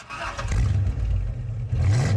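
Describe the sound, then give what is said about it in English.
A car engine cranks and catches with a brief clatter, then settles into a loud, low rumble that revs up slightly near the end. No voices. “And so if you listen to number 6, which is just a car startup.”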